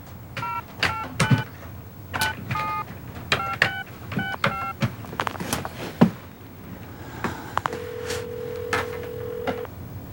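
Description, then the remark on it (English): A man calls his father on Thanksgiving: the telephone number is punched in as a quick, uneven run of about ten touch-tone beeps, clear. After a short pause, a steady lower tone hums for a couple of seconds. “And then sits down in front of the phone.”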